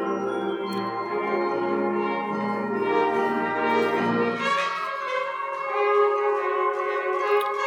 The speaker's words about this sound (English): Ding, ding, ding, ding, ding. I need to hear all those bell tone little chime things underneath it.